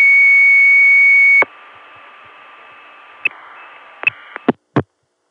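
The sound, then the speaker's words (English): A loud, steady modem tone on a phone line, off hook for 18 and a half seconds in total, cuts off abruptly with a click. Faint line hiss follows, then several sharp clicks and pops as the call disconnects. “This was apparently a modem. It stayed off hook for a total of 18 and a half seconds. Here's where it hung up.”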